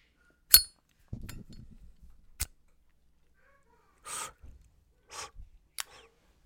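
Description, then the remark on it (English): Someone lights a cigar in a closet outside Columbus, Ohio, before starting a show: a few sharp lighter clicks separated by a low, soft rustle, then two breathy hissing bursts like puffs and a final click, with no talking. “I sit in my closet outside of Columbus, Ohio, and I always like to light up a stogie before I get going here on the show.”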